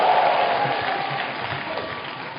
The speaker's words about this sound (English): Give the Lord a big clap of hand and take your seat.